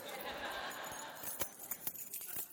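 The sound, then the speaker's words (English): A faint jingle of metal keys being shaken, with bright, irregular clinks and a few sharper taps toward the end, amid low room noise. “Anybody nearby have their keys on them?”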